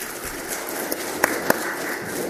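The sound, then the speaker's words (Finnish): An audience in Eura applauds the brothers after their singing, a steady, dense wash of clapping with a few sharper individual claps popping out above the rest. No one speaks. “Annetaan aplodit veljille.”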